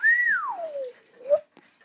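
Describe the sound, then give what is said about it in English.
A parrot named Lily Bird whistles the melody a washer-dryer plays when it finishes its cycle: a bright held note that slides smoothly downward, then a brief rising chirp to finish, clear and fairly loud with no talking. “For those who don't know, that's the melody that my friend Max, the washer dryer, plays when it's finished its cycle.”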